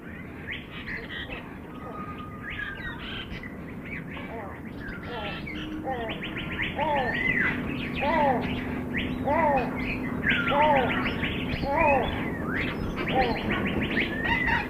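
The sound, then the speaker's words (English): A busy chorus of many birds singing and calling in an aviary, with bright chirps and repeated short call notes overlapping continuously and growing louder partway through, over a steady background hum. “As you come into the aviary, you can experience what it's like to walk into a tropical rainforest and start hearing the birds.”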